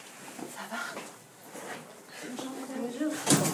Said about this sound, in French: La porte est ouverte.